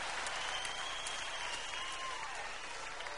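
audience applause and clapping

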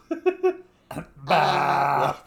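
burp

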